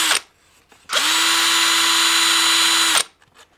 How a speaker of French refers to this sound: Petit coup de perceuse. Du vieux matériel.